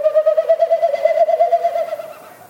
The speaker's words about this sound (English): It's going on over your head, so it's really hard to pinpoint where the bird is.